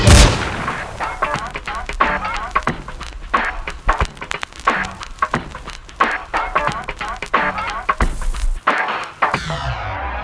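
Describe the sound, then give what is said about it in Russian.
A loud, sharp gunshot opens the track with a bright, splintering tail of breaking window glass, followed by a steady run of punchy, percussive hits in a driving rhythm. “Выстрел за окном, стекло, пуля, я.”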